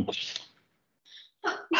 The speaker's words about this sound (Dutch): Gezondheid, hoor ik iemand.